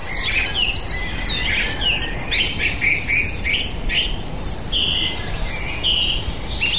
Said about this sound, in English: We want to get down to the waterfall and talk to you down there and try to get clear of the sound of the waterfall to get more bird song further into the woods.